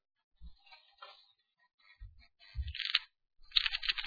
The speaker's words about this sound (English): But this is the part that I love. When you shake the cross, you will hear the dice being tossed for our Lord's blood-stained dress.